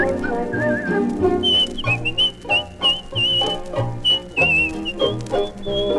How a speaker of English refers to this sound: And whistle a happy tune, and no one ever knows, I'm afraid.